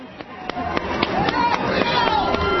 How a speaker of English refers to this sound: The 42nd President of the United States, William Jefferson Clinton, and Senator Hillary Rodham Clinton. Holding hands, the Clintons are coming in to, as you hear, warm applause on a very cold day.